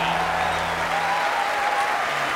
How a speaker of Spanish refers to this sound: los parisinos aplaudiendo como locos, claro que sí.